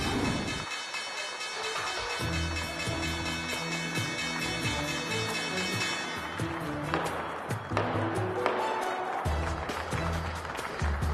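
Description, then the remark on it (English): A stock exchange closing bell rings on Wednesday, January 5th, in a steady, bright metallic clatter over a crowd's clapping and cheering. After about seven seconds the bell stops and the applause carries on. “And that is the closing bell this Wednesday, January 5th.”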